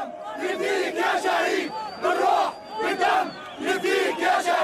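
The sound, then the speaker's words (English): A large crowd of protesters near Tahrir Square in downtown Cairo chants together, protesting after a court dropped criminal charges against Hosni Mubarak; many voices rise and fall in loud rhythmic surges about once a second, with no pauses between the shouted phrases. “Crowds gather near Tahrir Square, cradle of the revolution.”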